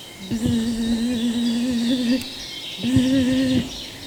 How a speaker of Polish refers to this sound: Zbierając kwiaty, usłyszałam pszczołę. Mama zawsze coś tam opowiadała mi o nich, że pożyteczne.